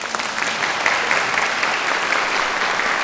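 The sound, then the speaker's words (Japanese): Steady audience applause at the 9th salon concert of a male-choir appreciation society, a dense crackle of many hands clapping at once, holding at an even, fairly loud level for the whole few seconds with no voices on top. “一分拍手を強制するような言い回しで失礼いたしました。”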